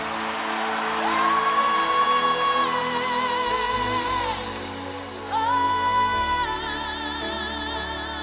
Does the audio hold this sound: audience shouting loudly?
yes